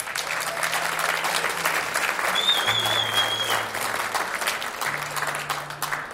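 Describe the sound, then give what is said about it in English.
An audience claps steadily for several seconds for the sound man, a dense, even wash of many hands at fairly constant loudness, with a low hum underneath and no one speaking. “I think a round of applause for our sound man here.”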